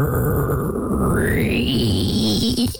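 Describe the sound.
A voice imitates a door knob turning slowly: a drawn-out, creaky squeak that glides upward in pitch and holds steady and loud for nearly three seconds before cutting off.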